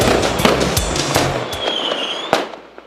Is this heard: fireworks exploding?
yes